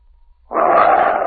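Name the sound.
animal growling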